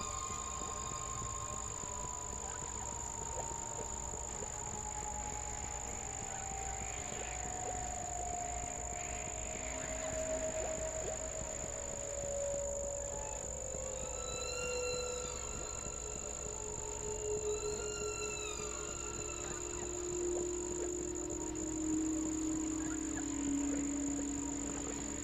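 whale vocalizations

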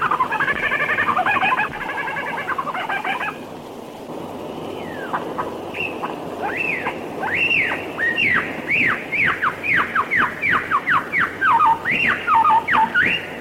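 lyrebird imitating kookaburra call

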